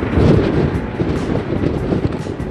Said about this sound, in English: All geared up, we head back outside into the wind on the pier. It's high summer here, but the gusts give us a taste of what to expect as we head farther south.